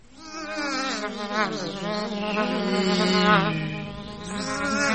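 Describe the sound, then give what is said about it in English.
Loud, continuous buzzing of bees, droning steadily for several seconds with a wavering pitch that rises and falls, with no talking. “I wonder what bees tell their baby bees.”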